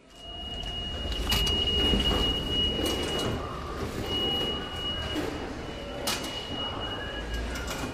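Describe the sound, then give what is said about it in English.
Subway car doors slide with a rumbling rush over a steady, noisy platform hum, a high tonal whine running through it and a few sharp clacks standing out. “The sounds of the subway.”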